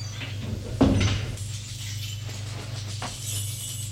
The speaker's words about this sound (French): Il voit au milieu du couloir un petit lavabo et à côté une porte marquée dessus WC. Avec la clé, il ouvre la porte.